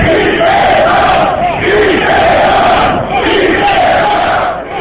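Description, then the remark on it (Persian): A large crowd of anti-government protesters in Azerbaijan chants slogans in unison against President Ilham Aliyev, demanding his resignation and the release of jailed opponents: loud rhythmic shouting that swells and dips in repeated waves for several seconds with no single voice standing out. “تظاهر کنندگان بر ضد رئیس جمهور الهام علیف نعره می زدند و خواهان استعفای وی بودند و هم خواهان آزادی مخالفین بودند که سال گذشته در جریان تظاهرات دستگیر و زندانی شدند.”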